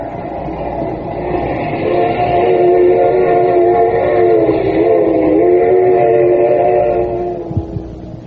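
A train rolls along the rails with a steady, loud rumble and a sustained droning whine that swells midway, then quickly fades away near the end; no one speaks.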